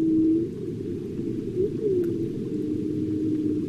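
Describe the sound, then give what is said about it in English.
A humpback whale sings in long, sliding tonal moans that rise and fall over a dense, rumbling underwater background, the eerie calls drifting in and out without any voices. “the humpback whale is on the road to recovery and is no longer in immediate danger of becoming extinct”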